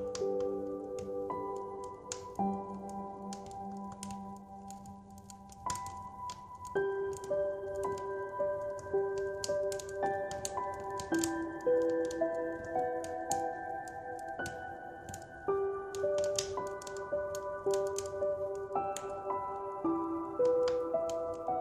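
A fire crackles with scattered, irregular sharp pops and snaps, heard over a gentle, slow melody of sustained notes. No one speaks.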